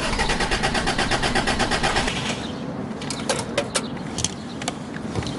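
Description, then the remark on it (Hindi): A car's starter cranks in a fast, steady rhythmic whir for about two seconds, then cuts out without the engine catching, leaving a low rumble and a few sharp clicks. “पता नहीं, स्टार्ट नहीं हो रही है।”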